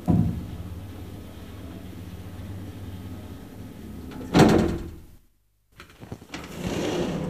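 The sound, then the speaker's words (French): A door is opened as someone enters, with a short burst of creaking and rattling over a low background rumble, followed by a brief silence and then softer shuffling and movement noises. “Comment êtes-vous entré? Bonjour, monsieur Hugon. Mais par la porte, comme tout le monde.”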